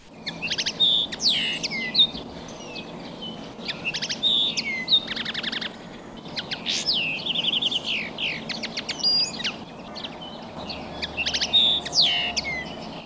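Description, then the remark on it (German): A common linnet sings a varied, twittering song of quick chirps, trills and buzzy notes in rapid phrases, over a low background hum with no talking. “Und der Bluthänfling, der hat einen für mich persönlich ganz besonderen Gesang.”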